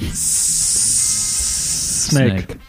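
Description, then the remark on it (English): A loud, steady snake-like hiss holds unbroken for about two seconds, then cuts off as a voice briefly speaks at the end. “Snake.”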